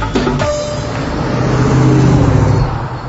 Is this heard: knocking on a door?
no